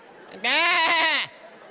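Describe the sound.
A person imitates a sheep, letting out one loud, wavering "baa" about a second long that quivers in pitch before dropping off, with no other talking.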